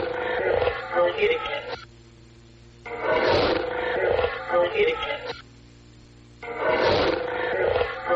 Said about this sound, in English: Again, with a little of the low end missing, it's a little harder to tell about the growling, but some kind of deeper noise, obviously, and then it sounds like a female voice, but I don't know what it's saying.